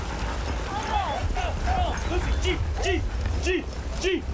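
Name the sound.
sled dogs barking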